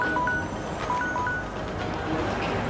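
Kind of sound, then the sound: signal or alarm, telephone ringing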